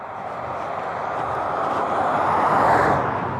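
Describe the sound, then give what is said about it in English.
A car approaches and passes by, its broad tire and engine rumble swelling steadily louder before easing off at the end, with no talking. “You hear this car coming?”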